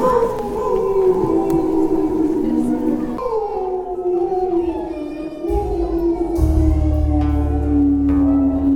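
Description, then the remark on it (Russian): A frightening wolf howl opening a children's fairy-tale stage play at its dress rehearsal, filling the whole stretch, its drawn-out tone sliding slowly downward in layered, mournful waves, with a low rumbling undertone swelling in near the end. “И начинался он со страшного волчьего воя, от чего некоторые дети даже заплакали.”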